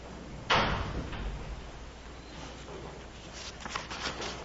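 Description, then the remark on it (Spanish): A door swings shut with a single solid thud, followed by a few seconds of quiet background noise and faint rustling. “No sé si sería bueno cerrar la puerta porque están”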